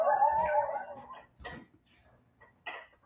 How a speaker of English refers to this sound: Coyote.